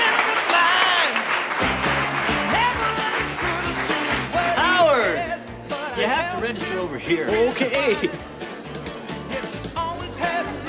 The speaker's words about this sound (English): you know, and then anytime you're down, you know, you could just open it and stand there and listen to all the cheering and bravos. Yeah. Cheers and bravos are important, aren't they?